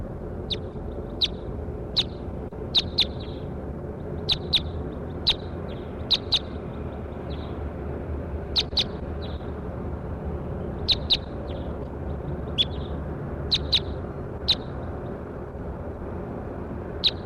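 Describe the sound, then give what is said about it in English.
A bird gives a long, irregular series of short, high, clipped toop notes, sometimes doubled, standing out clearly over a steady low background hiss with no talking. “While 3-4 gives a long series of toops, stop.”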